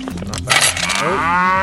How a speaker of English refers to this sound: Oh, there's a cow in there. Don't worry about that. That should be fine.